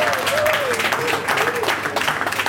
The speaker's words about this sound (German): Flinke Hände nehmen die Teller weg und bringen es der Jury. Das Publikum applaudiert.